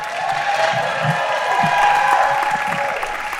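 audience applause

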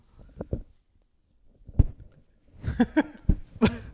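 cough

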